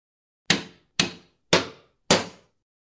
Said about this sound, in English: Can you imagine hammering and sawing every day for years? Let's pretend to hammer.